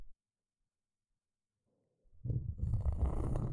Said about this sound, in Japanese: ゴリゴリという音が、きっと耳に心地いいことでしょう。さっきはこの音、大好きでございます。今日はいつもより厚めのコルクコースターですので、初めて聞く音。